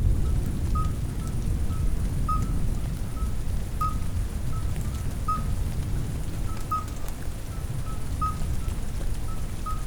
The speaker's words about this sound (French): C'est la fin de l'orage.